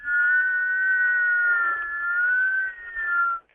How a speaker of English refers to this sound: What I did learn, the most difficult sound, I have a book out called Mouth Sounds, and in there that the most difficult sound, and it's rated that way, is two whistles from the corners of your mouth.